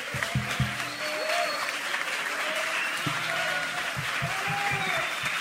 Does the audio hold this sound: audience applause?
yes